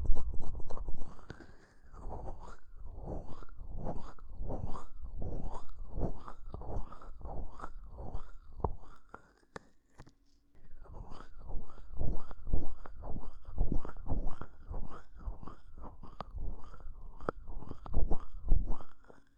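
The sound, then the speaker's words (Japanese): Soft, rhythmic rubbing and squishing strokes of a massage of rain-chilled ears repeat at a steady pace, with a short pause midway before the kneading resumes. No one speaks. “生徒に雨で冷えた耳をコリコリってマッサージされる気分は、驚いたようなその吐息もこの雨の音にかき消されちゃいますね。”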